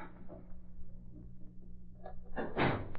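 A library door opens or shuts with a short, broad thump-and-rattle near the end as two young men go into the library, following a stretch of low hum and faint shuffling.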